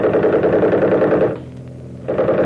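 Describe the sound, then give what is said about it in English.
A loud, rapid machine gun burst rattles for over a second, breaks off briefly leaving a low hum, then starts firing again at the end. No voices are heard. “The minute I open up with the rifle, smack them with the machine gun.”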